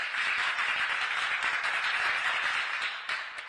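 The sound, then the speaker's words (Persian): Steady, dense applause for fire-engine drivers across Iran, many hands clapping at once in a bright, hissing wash that holds at an even level and dips slightly near the end. No one speaks. “آفرین راننده های آتش نشان در سراسر ایران اسلامی، محکم تشویق برای راننده ها.”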